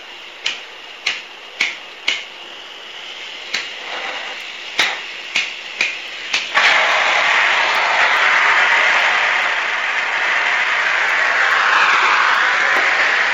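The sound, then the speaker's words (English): A blowtorch's igniter clicks sharply about nine times in an uneven rhythm, then catches with a whoosh into a steady, loud, breathy roar of burning gas that continues to the end, the torch being lit to heat one end of a pipe. “So lighting up torch land here.”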